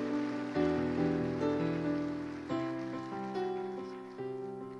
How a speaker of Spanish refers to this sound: Denle un fuerte aplauso al Padre perfecto.